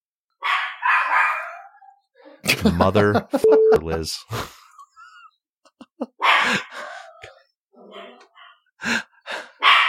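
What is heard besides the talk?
dog barking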